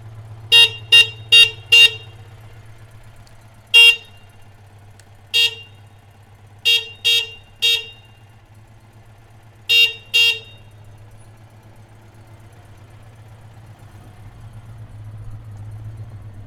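car horn honking

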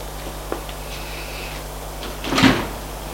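elevator door opening

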